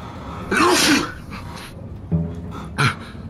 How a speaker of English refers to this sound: He sneezed in his hand